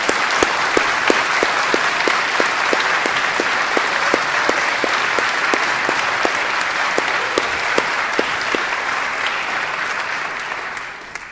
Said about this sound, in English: So let's show our appreciation and let's give them a hearty round of applause because they deserve it. They've done really well.